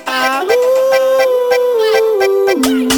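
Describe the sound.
A person imitates a dog's howl with one long, wavering vocal tone that rises, holds and then drops, sung loudly over a steady, driving rhythmic beat.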